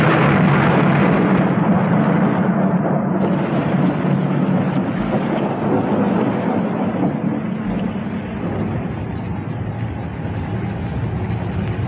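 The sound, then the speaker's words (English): A monsoon thunderstorm at an airport roars without pause, heavy rain hissing over a deep, steady rumble of thunder. It stays loud throughout, easing only slightly near the end, with no voices. “We'll have to make a dash for the car if you will insist on arriving in the middle of a monsoon.”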